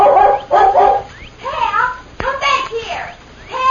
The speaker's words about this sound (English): As soon as they heard the dog barking, the Lone Ranger and Tonto leaped to their feet. A moment later, they saw the dog, a beautiful collie, golden brown with a white chest.